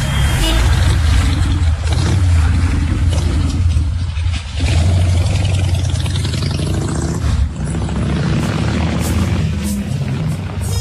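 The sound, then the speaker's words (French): A dense, steady rumble of idling taxi engines fills a busy street, loud, with a continuous low drone and occasional revving swells layered over the traffic noise. “Ah c'est les taxis. C'est les taxis.”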